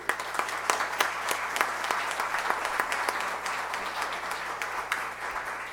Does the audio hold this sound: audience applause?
yes